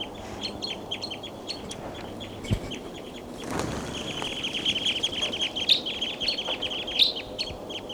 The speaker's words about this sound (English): The flock is still around here. They're all perched on top of and they're calling a lot.